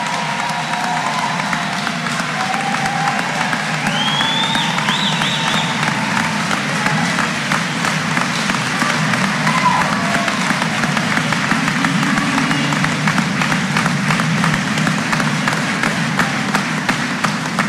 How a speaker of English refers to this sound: Ladies and gentlemen, please give a round of applause to Lacaparra Valley 2023 graduates.